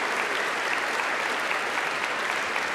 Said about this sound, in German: Gott alle Ehre, ihm einen großen Applaus. Ich danke euch fürs Dasein. Danke sehr. Applaus an ihn.